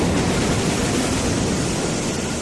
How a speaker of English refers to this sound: Hold your breath, he advised, as a rush of cold, salty water flooded over them, knocking them over.